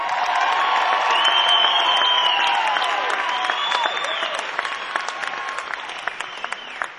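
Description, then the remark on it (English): A concert audience claps steadily and loudly while people cheer and let out rising whistles and whoops as a drummer is introduced; the dense applause carries on throughout, easing slightly toward the end. “Please put your hands together for … on the drums.”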